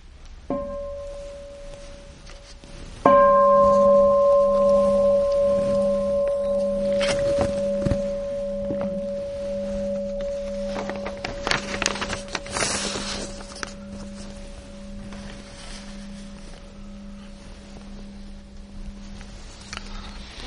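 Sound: bell ringing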